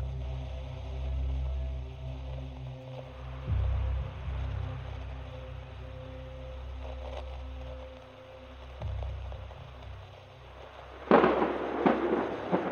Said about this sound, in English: A thunderstorm began this afternoon. The wind and rain were so severe, our expedition couldn't go on.